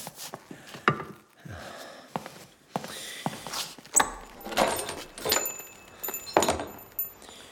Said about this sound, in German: Mach mal bitte die Tür auf.